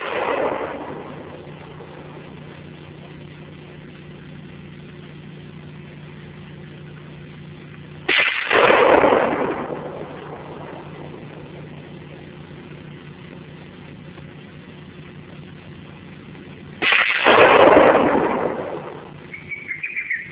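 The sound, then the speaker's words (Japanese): Two loud carbide cannon blasts go off about nine seconds apart, each a sudden boom that rolls away in a long echo, over a steady low hum outdoors; the blasts are set off to drive away hares in a region suffering hare damage. “被害のある地方では、ノウサギの嫌うイカの腹綿の腐った汁を染み込ませた藁をぶら下げたり、心によっては、機器材のテープを巻いたり、カーバイドの爆音を轟かせたりして、ノウサギを追い払う工夫を凝らしている。”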